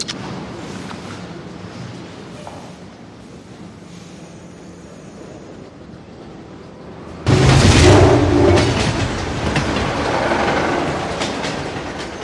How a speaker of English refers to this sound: In his car, Tom watches a train roll off.